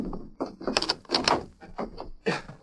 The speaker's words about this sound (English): Yes, yes. I'll bolt the door.